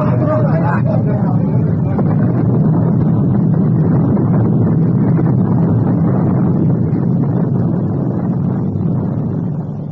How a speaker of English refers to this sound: The once proud Morning Star slid beneath the waves, her boilers bursting in her last dying gasp of defiance.